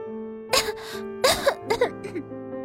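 Several short, throaty coughs, a flower character in a story raising its voice and coughing a few times, come in quick, uneven bursts, fairly loud, over a soft, steady musical background with no speech.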